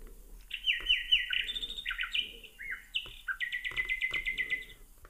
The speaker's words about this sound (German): Ja, Kohlmeise, Elster, die Nachtigall spiele ich noch vor.